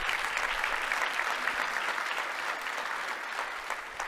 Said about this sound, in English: Now, if we're going to applaud the Lord, let's applaud the Lord at all campuses.